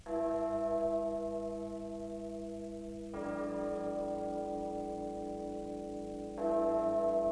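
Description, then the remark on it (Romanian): Church bells ring out in slow succession in the middle of the week, each deep, sustained toll overlapping the last with long ringing tails, fairly loud and steady with no voices. “Clopotele în mijlocul săptămânii.”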